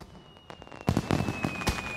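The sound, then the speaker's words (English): A string of firework bursts goes off, several sharp crackling bangs in quick succession after a quieter start, with a thin high whistle running through the whole stretch. “He waits for a firework to explode to cover the sound of his breaking in.”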